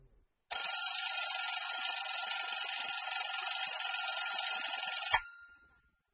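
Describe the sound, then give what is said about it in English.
An alarm clock rings loudly and continuously for about five seconds, a dense metallic jangle that stops abruptly and leaves a short fading ring. No voices are present. “Clock.”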